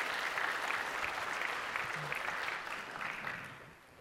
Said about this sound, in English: And I think it'd be a pretty good place right here just to give God a round of applause and say, thank you, Lord, for all that you did for me.